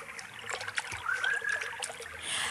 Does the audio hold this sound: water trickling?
yes